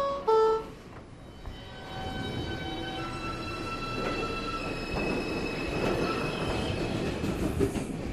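A New York City subway train rumbles steadily along the rails while high-pitched metallic wheel squeals ring out over the noise. A brief loud tone sounds at the start, and nobody speaks.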